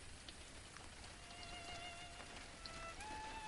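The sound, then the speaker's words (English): A rain sound effect: steady rain pours down, a dense, continuous hiss of drops pattering on surfaces with a faint tonal whine drifting through. No one speaks. “Rain up.”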